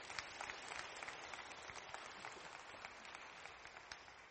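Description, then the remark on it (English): Steady audience applause at a church worship service, welcoming a woman coming up to speak, fills the space: a dense wash of many hands clapping at once, sustained at an even level for several seconds without fading much. “So give her a round of applause for coming on up.”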